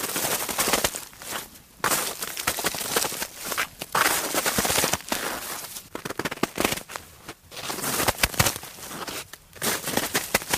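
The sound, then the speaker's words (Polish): Footsteps crunch through snow in a steady walking rhythm, each step a loud, gritty, crackling burst with brief pauses between strides. No one speaks. “Proszę Państwa, może teraz tutaj nagram takie chrupnięcie śniegu pod nogami.”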